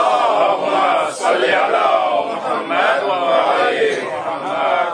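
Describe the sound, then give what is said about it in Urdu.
A large crowd chants salawat together in unison, a loud, steady wall of many voices with rhythmic rises and dips that carries on for the whole stretch. “صلوات پڑھیں محمد وآل محمد.”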